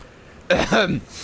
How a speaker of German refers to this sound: Ich huste laut und räuspere mich